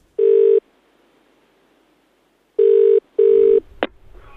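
A telephone ringing tone for an incoming phone call, one buzzy burst, a pause, then a quick double ring, ending in a sharp click as the line is picked up. No one speaks.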